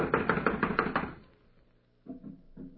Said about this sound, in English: Blast it, it's locked from the inside. Well, someone is definitely in there. I'm going to knock. Now listen closely.